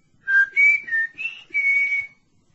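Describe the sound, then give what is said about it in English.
A person whistles a short tune of five clear notes, each held briefly with small gaps, the last one drawn out. Fairly loud, with no talking. “When the coast's clear for a further conference, give me a whistle. Like this.”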